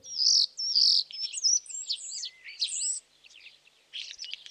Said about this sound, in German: Na, welcher dieser drei Vögel war der Star? Genau, Vogel B war es. Jetzt wissen wir zumindest, wie ein Star so klingt